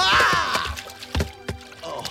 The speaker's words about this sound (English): I never seen someone jump straight up and land in a bucket of water before.